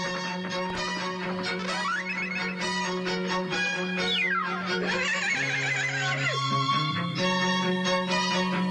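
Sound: horse neighing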